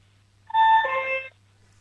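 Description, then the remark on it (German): A two-note ding-dong doorbell chime, a higher tone falling to a lower one, sung clearly by a 6-year-old girl from Vienna imitating the bell during a sound-guessing game, with no other sounds around it. “Und jetzt will ich gerne noch die Türklingel hören.”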